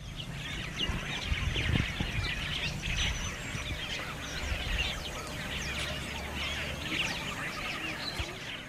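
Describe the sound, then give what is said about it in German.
A dense chorus of birds chirps and twitters continuously all around, loud and busy, on the bank of the Canal du Sahel, with a low rumble of wind or water underneath and no voices. “Lautes Vogelgezwitscher umgibt uns.”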